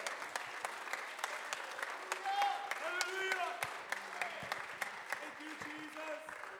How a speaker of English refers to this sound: Clap your hands. Right? Alguien aplaude sus manos.